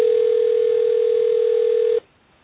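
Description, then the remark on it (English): A telephone ring tone sounds over a phone line as one steady, evenly pitched two-second burst, then cuts off into quiet line hiss. No one speaks. “Do other people hear the phone ringing?”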